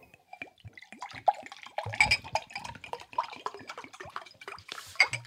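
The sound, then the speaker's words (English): Water drips and trickles in a quick, irregular patter of bright plinks, with a few fuller splashes and a faint clink of dishes, and no voices. “All right, that water sounded nice.”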